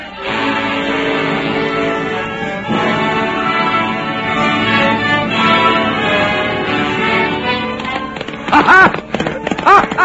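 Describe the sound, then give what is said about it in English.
Horse hooves clip-clop rapidly as a man makes his escape on horseback, beneath loud, sweeping orchestral music, the hoofbeats growing more distinct near the end as a few sharp, louder strikes break through. “He's heading for his horse. We'll never catch him.”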